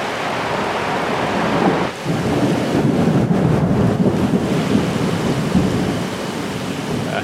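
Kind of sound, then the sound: nature, thunder and rain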